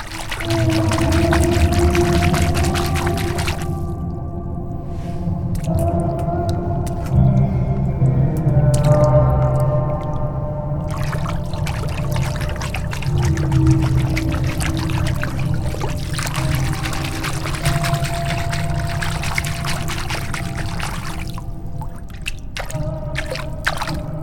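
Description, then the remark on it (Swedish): Water being stirred and sloshed in a tub that is an interactive sound installation, with splashes and drips. The movements and swirls in the water produce sustained, eerie singing voice-like tones that rise and glide throughout, fairly loud. “När jag spelar med rörelser i vattnet så kommer man att höra en röst som sjunger.”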